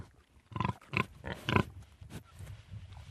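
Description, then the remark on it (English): Pigs on a farm that keeps six breeding sows and one boar grunt in three loud, rough bursts about half a second apart, then quieter snuffling grunts continue underneath. “We've got six breeding sows and the one boar.”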